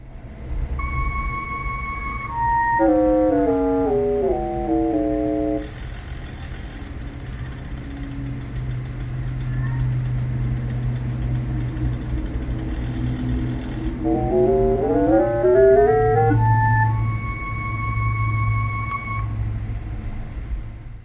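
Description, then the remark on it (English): A light-to-sound device: flute-like tones for bright light and reedy clarinet-like tones for mid-range light step downward in pitch, give way to a low, dense clicking buzz for low light, then climb back up in steps, all over a steady low hum, as its sensor is covered by a small cardboard circle. “So, yeah, so in bright light, you kind of hear that nice bright flute sound is what we were thinking.”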